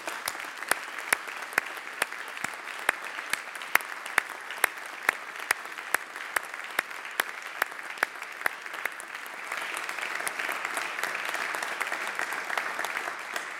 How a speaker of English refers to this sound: Let's give a special round of applause to them.